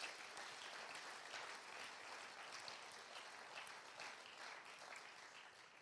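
crowd, audience applauding in praise

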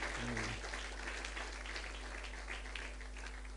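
crowd, audience applauding

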